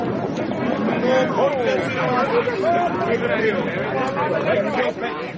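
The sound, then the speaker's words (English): A dense babble of many overlapping voices from the crowd at Ascot racecourse, steady and fairly loud throughout, with no single speaker standing out from the crowd's chatter. “A crowd like this, where's the pleasure in it?”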